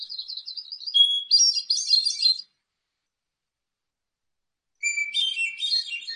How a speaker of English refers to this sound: And I'm just going to use my iPhone, but I think it's going to work. So here's the hermit thrush, the Vermont state bird.